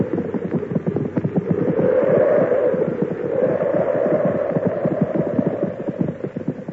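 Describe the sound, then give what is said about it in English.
Several horses' hooves, one horse named Brutus, clop in a busy, uneven patter as they are brought into a barn to shelter from a snowstorm, steady for several seconds, over a low continuous rumble like wind, with no voices. “Oh, bring the horses in too.”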